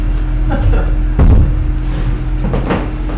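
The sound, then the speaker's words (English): A large board is moved closer across the floor, with a heavy wooden thump and scraping bumps, then a few lighter knocks as it settles, against a steady room hum. “I'm going to bring the board closer.”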